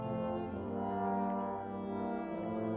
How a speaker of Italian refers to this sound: Sentite la viola.